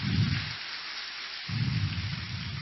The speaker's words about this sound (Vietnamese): Và thời giờ này thì thầy đã hiện diện trên pháp tòa, đề nghị toàn thể các em cho một tràng pháo tay để chào đón thầy.